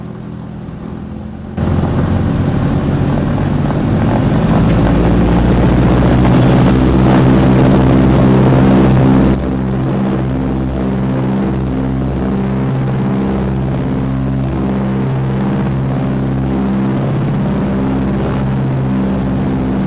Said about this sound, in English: We've got the engine running, so we're going to let you guys taxi out and take off. And here's what you guys will sound like.